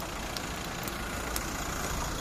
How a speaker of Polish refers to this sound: Co słyszycie w Łodzi? Gwar ulicy, gwar samochodów jadących dookoła, stukot kół tramwajów, różnego rodzaju zgrzyty, piski. Jest to taki ambient tła, który w mieście w zasadzie jest nie do wyeliminowania.